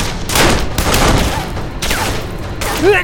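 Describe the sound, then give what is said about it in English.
Loud bursts of gunfire coming from both directions in several volleys, harsh cracking shots crowding together, with a few high whining ricochet-like tones sliding through between them. “If Matt still had both of his Colts, he would have returned the fire in both directions.”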